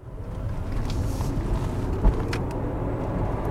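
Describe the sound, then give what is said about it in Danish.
A quiet soft-top convertible car pulls away as the accelerator is pressed, giving only a soft, steady low rumble of road and motor noise with a single dull thump partway through. No one speaks. “Her, der trykker jeg på startknappen, det har jeg faktisk allerede gjort, og der sker ikke en lyd, før jeg træder på speederen.”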